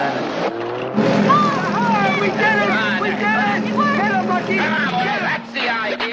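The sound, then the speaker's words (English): Mancini's Ferrari sports car engine roars loudly and steadily as it peels out of the shop, with high squealing tones above it and a murmur of voices in the background. “As Lucky tries again, Mancini peels out of the shop.”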